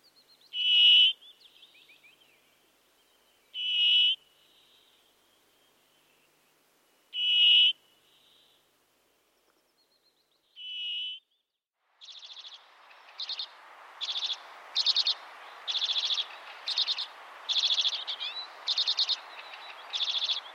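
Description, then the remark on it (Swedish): Four separate, drawn-out nasal brambling calls spaced a few seconds apart, followed by a faster run of repeated calls over a soft hissing background, clear with no talking. “Det har rapporterats om 4 miljoner bergfinkar i en enda vinterflock.”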